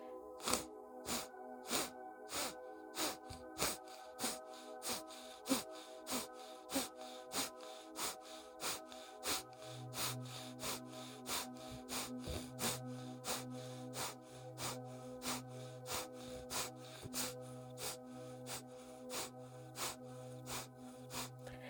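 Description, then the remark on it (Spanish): Quick, forceful exhalations pushed out through the nose by pressing the navel inward with abdominal force alone, without the hands, in a steady rapid rhythm, about two per second, clear with no talking, over a soft sustained musical drone. “Entonces inhalo con abdomen, pecho, hombros, retengo un poquito allí y comienzo mis exhalaciones apretando el ombligo, empujando, golpeándolo hacia adentro, sin las manos, solo con la fuerza abdominal.”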